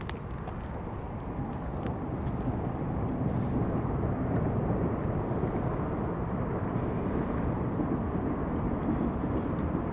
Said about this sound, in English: So we're just watching a train go over the bridge now, from south to north.